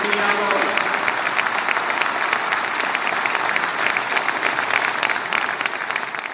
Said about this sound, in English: Today, he said, I'm announcing that soon I will submit legislation that will give the right to vote to all residents of our island, regardless of where they were born or their migratory status. And the crowd goes wild.